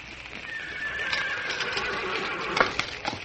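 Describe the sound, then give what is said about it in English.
A horse whinnies in a long, wavering call while hooves clop irregularly, with a few sharper stamps toward the end amid a busy outdoor background, as horses are hurriedly readied for a Cobb and Co. departure. “Get them horses,”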